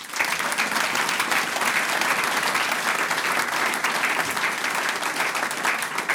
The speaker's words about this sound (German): Applaus.